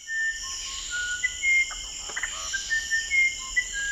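A musician wren in a South American rainforest sings a slow series of pure, flute-like whistled notes that step between different pitches, set against a steady shrill chorus of rainforest insects.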